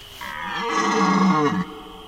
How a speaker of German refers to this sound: In ihrem Stück … wird die mondbeschienene Waldlichtung zur Bühne, auf der zwei Platzhirsche paarungsbereit brüllen und grunzen.